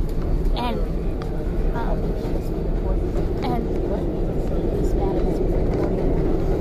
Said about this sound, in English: Okay, so we're now on the train,